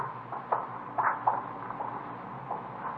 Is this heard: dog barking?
no